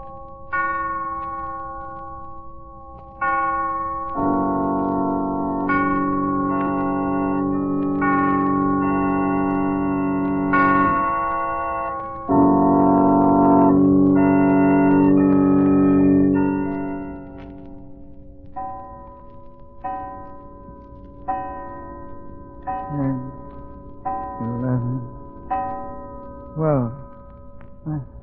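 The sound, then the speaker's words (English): A clock strikes midnight with a series of resonant, ringing bell tones, fairly loud, the chimes sustaining and overlapping before giving way to sharper, evenly spaced strokes. “He'll rise from bed in a hypnotic state, dress and start for a walk just as the clock strikes midnight.”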